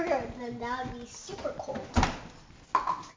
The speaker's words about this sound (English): Okay, let's shut the door so all the cold air doesn't come out.